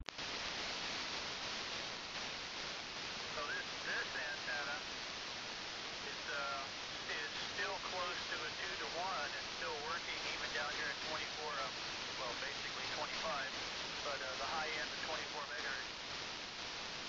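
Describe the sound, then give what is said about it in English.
Steady, loud radio static hisses throughout, with a faint, warbling voice from a weak transmission barely rising above the noise now and then. “you're barely breaking above the static, but you have about a 7 or slightly more.”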